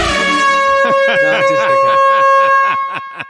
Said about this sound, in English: I'm going to get there before the buzzer.